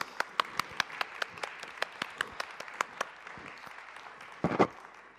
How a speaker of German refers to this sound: Das haben sich ein liebes Ehepaar dafür entschieden, mir da zu assistieren. Herzlichen Dank euch beiden. Einen Applaus.